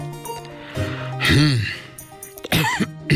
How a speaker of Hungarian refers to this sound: És még egyszer erőlködve krákogott valaki, reszelte köszörülte a torkát, hümmögött, küngetett, mint aki hajszálat nyelt, vagy sok fagylaltot evett, vagy légy repült a szájába.